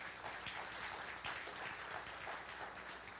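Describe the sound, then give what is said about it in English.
A crowd applauds its leaders steadily, dense overlapping claps forming a bright, crackling wash of sound that holds at an even level for a few seconds, with no voices. “for all sharing, can we give them all a big round of applause?”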